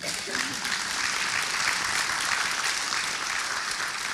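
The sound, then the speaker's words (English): An audience applauds to welcome six panelists at an evening event, many hands clapping in a dense, even wash of sound that holds at a constant loudness throughout, with no voices standing out. “Please welcome them by great hand clap of praise.”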